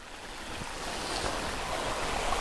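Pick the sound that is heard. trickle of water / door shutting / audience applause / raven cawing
trickle of water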